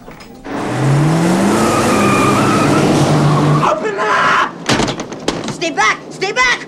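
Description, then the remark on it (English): A car starts up and revs loudly as a woman gets into it after running across the road, its engine note rising over a rushing roar, then cuts out as someone begins shouting urgently. “Max is sipping wine in the restaurant, then notices Lucy running across the road and getting into her car.”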